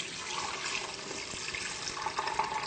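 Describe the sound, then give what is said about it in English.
About 2.5 cups of coconut water pours steadily into a Vitamix blender jar, a continuous splashing gush with no talking, lasting a few seconds. “And to start with, we're going to actually be using 2.5 cups of coconut water, which we showed you earlier how to open the coconuts.”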